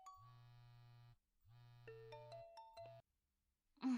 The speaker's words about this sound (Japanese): 私のスマホ、鳴ってる。